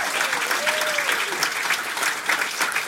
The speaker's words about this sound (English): Please a round of applause to everybody on this side of the room.